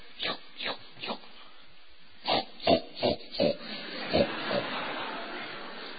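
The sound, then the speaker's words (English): A series of short, snorting pig grunts and oinks, roughly a dozen irregular bursts over a few seconds, moderately loud against a faint rustling background. “Pigs.”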